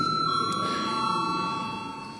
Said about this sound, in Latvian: Lūdzu zvanu.